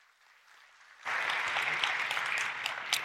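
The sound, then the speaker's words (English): A church audience at Cedar Creek Church bursts into applause about a second in to welcome a guest speaker. The clapping is dense and steady and holds at full strength, after a quiet murmur at the start. “So would you join me in giving a warm Cedar Creek Church welcome to my friend, Reggie McNeil.”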